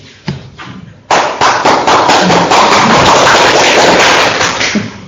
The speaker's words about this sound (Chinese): 你为啥鼓掌啊？